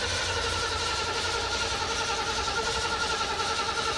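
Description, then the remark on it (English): A car engine with an Edelbrock carburetor cranks steadily, its starter whirring for several seconds with a faint rhythmic churn but never catching. Fairly loud, with no talking. “You want to fire Let's it up? Let's fire it up.”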